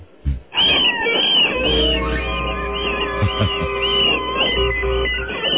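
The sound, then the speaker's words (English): A fox killing a rabbit: after a brief thump, a loud, shrill, wavering scream rises and carries on almost without a break, repeated high-pitched wails pulsing over a low rumble, with no voices. “The fox is killing the rabbit.”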